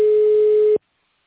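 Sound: telephone tones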